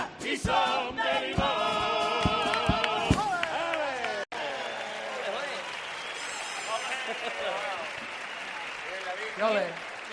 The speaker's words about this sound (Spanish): ¡Aplauso grande!